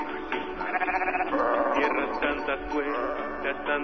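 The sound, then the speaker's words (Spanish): A goat bleats in a run of wavering, nasal cries that blur into one another, fairly loud and steady for a few seconds against a faint background. “A lo mejor le dejan subir a la cabra, señor Francisco.”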